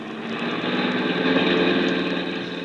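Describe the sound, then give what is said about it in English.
A steady, loud engine drone with a dense low rumble and a slight rise in intensity midway, as a car is driven fast in the morning, with no voices. “Please, do you have to drive so fast?”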